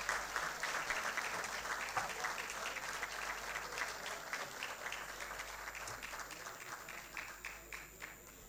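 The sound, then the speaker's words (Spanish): Steady, dense audience applause as Joshua Duerksen is awarded the Arsenio Pastor Erico Martínez prize for his achievements in motorsport. Many overlapping claps form a continuous crackling wash that holds fairly loud for the whole stretch and eases slightly toward the end. “Fuerte los aplausos.”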